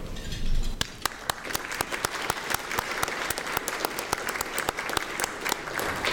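An audience applauds steadily for several seconds: a dense wash of many hands clapping, with a few sharper, louder individual claps popping out. No one speaks over it.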